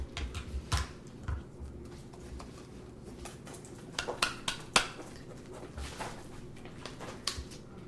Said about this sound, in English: These are very small scissors. They are. All right. Well, so you're ready to cut now.